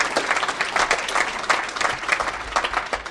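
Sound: audience clapping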